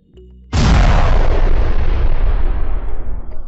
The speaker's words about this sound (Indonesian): Tiba-tiba saja, ledakan besar terjadi dan ya, itu adalah Fang Min yang meledakkan dirinya sendiri. Padahal Fang Min itu sudah berada di ranah Sovereign, yang artinya kekuatan ledakannya juga sangatlah dahsyat